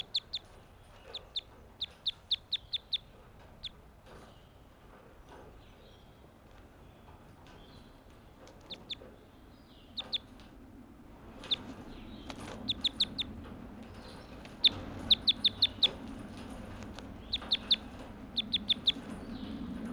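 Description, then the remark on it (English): A bird, referred to as bird 85, calls in quick bursts of sharp, high-pitched chirps, grouped in rapid clusters that repeat throughout over a low, steady background rumble. “We call this bird 85.”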